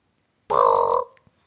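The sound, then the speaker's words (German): A single soft, rolling call of a European bee-eater, a short purring trill lasting about half a second, heard clearly and alone with a faint click afterward. “Er ist sehr ruffreudig und besitzt einen rollenden, weichen Püttruf.”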